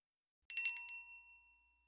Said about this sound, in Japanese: 店に入り呼び鈴を鳴らす。